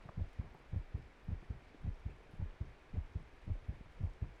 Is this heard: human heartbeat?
yes